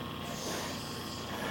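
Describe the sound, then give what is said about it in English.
A child huffs and blows like the big bad wolf blowing the house down, a steady, breathy rush of air that holds for about a second and a half with no words. “I'll huff and I'll puff and I'll blow the house down.”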